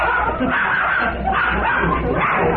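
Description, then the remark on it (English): A dog barks and yips in quick, excited bursts over a steady low background rumble. “Glad he had to bring a dog in here yet.”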